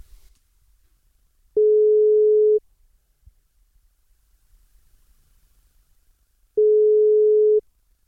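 outgoing phone call ringing

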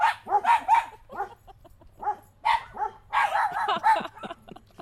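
dog barking

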